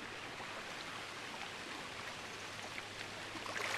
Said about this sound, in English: There's got to be something that explains this sort of irreverence and the way that the river definitely trips me up into a reverie every time I am near it.